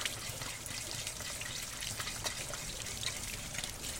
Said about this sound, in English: Lily stands over a sink, rinsing a colander full of blackberries.